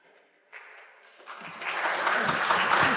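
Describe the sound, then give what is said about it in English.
Audience clapping at a session of the ASHS 2017 meeting as a speaker is introduced. It starts thinly, then swells over a few seconds into steady, dense applause from many hands, growing louder toward the end with no talking over it. “You don't have to clap, folks.”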